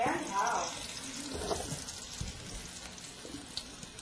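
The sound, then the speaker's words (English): Food sizzles in a hot pan, a steady hissing crackle with sharp pops scattered through it. Murmured voices come in faintly underneath at moments. “See, hear that sizzle?”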